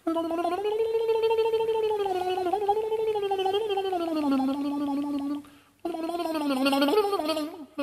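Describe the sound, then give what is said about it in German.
Sir Peter Ustinov's voice imitates a mandolin, a rapid fluttering tremolo on a wavering sung melody, holding steadily for about five seconds, pausing briefly, then resuming loudly. “So klang es, als Ustinov eine Mandoline imitierte.”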